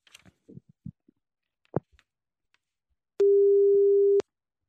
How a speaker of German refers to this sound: Wir rufen jetzt Stefan Beuting an